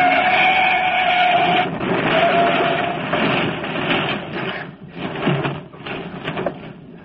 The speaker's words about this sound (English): No, I'm okay. You turned over. Says I'm right. Just smashed my left front fender and headlight.